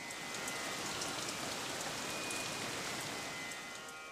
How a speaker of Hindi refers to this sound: उन्होंने जैसे सारंग राग का पहला श्लोक गाया तो आसमान में बादल जमा हो गए और दूसरा श्लोक उनके मुख से निकलते ही रहमत की बारिश होने लगी।